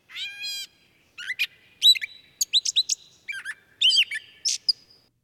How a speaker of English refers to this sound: Gray catbirds call from the dense shrubs, their songs interspersed with scratchy meows.